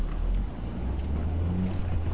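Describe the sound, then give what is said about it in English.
A car drives steadily round a roundabout, waiting for a van, its engine producing a constant low rumble over a wash of road noise, with a brief higher hum rising partway through. No one speaks. “Pause while going round roundabout, waiting for van.”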